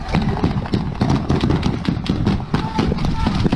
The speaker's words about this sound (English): This long burst is about 17 shots, bringing us a total of 20. We're tallying shots fired and episodes of fire based on two forensic analyses on screen. We cannot see who is still firing here, and we never see Marines or anyone firing in this video.